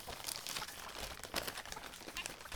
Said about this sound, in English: Now on to my present. Oh, it's almost a shame to tear this paper,